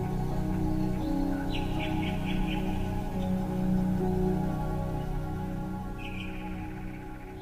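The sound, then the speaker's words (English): A water whistle burbles out short, warbling birdlike trills in two bursts, imitating nightingale song in a concert performance of Respighi's Pines of Rome, above a steady bed of sustained orchestral chords. “So then we just kind of use little water birds. It's a water whistle. Then it would have the sound of the Nightingale.”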